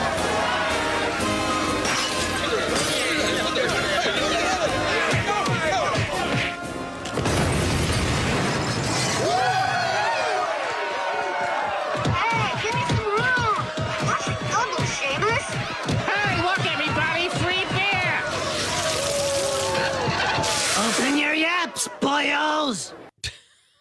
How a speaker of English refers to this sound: Oh, that's The Simpsons. And the explosion you heard was a bunch of Irish guys throwing some type of bomb at a fish and chips place. Like that was all happening in Springfield.